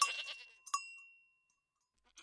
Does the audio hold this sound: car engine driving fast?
no